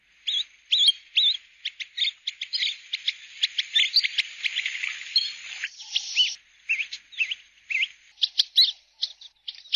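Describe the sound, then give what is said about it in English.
African pygmy geese on small lily-covered pans at St. Lucia call in a rapid series of high, thin whistling chirps and twitters, continuous, with a faint steady high tone running beneath; no voices. “Today's bird call was the African pygmy goose.”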